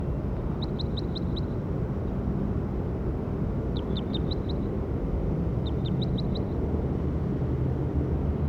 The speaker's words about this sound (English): That was bird 57.